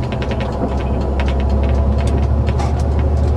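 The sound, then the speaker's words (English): A steady low rumble of engine and road noise fills the cabin of a moving National Express coach bus, with faint scattered rattles and ticks over the constant drone, and no talking. “Can I please ask all passengers that have just joined us to ensure they have their seatbelts done up at all times while seated on the coach?”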